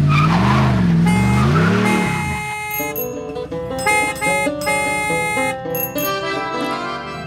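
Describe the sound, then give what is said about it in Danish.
A short radio traffic jingle: a loud, swooping car-engine rev sweeps up and down, then gives way to a bright, chiming musical sting with bell-like tones. No voices. “Vi starter med den her trafikjingle”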